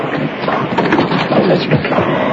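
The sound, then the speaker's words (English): A stamping mill runs at full speed, a loud, dense roar of heavy machinery with rapid pounding thuds blending into a continuous rumbling clatter, with no voices. “It's a stamping mill, running wide open.”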